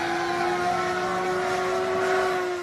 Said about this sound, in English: A spokesman for Wing says the company is working on quieter drones.